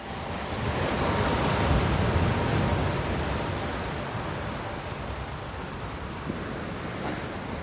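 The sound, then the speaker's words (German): Ocean waves wash onto a shore in a continuous, rushing roar, swelling loudest early on and then easing into a steady surf hiss with a touch of wind. No one speaks. “Noch ein letztes Mal ans Meer.”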